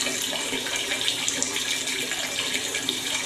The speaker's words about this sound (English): Long, never-ending pee, this.